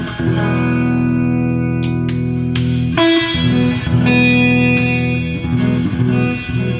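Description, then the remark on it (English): An electric guitar, the player's own signature model, plays sustained, ringing chords drenched in heavy reverb, notes washing into one another with a thick, spacious tail, loud with no voices. “Got so much reverb, but...”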